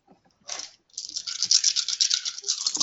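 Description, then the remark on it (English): Dice rattle and clatter in a brief burst during a tabletop role-playing game's dexterity and athletics roll, pause, then roll in a longer, steady stream of bright clicking that runs to the end. No one speaks. “You tell those dice.”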